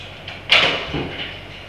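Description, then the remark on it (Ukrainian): A door opens: a sharp latch click and brief scraping slide, followed by a softer dull thud, with no talking. “Два чорних, великі кружки і занесете, я відкрию двері канапки.”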